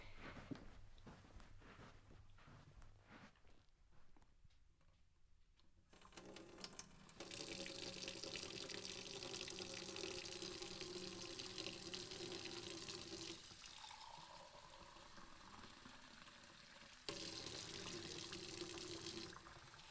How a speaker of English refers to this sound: Okay, let me wishy-washy my hands and I'll get some water for us